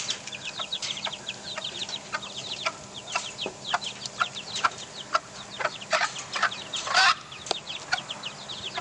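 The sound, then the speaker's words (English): A mother hen clucks in short, low bursts while her four small chicks cheep rapidly and continuously in high, thin peeps, a busy overlapping chorus with no talking. “Their mum. making a little bit more noise.”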